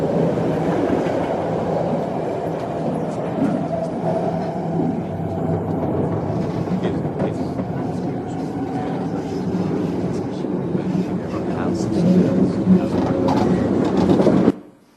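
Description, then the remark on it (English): A metro train rumbles steadily along the rails throughout, with a dense low roar, a faint clickety-clack and occasional squeaks, swelling slightly louder near the end before stopping abruptly. “He's been identified on the Metro. Train makes two stops at 20th and 33rd.”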